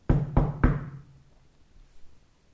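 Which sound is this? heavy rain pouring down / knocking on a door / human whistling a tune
knocking on a door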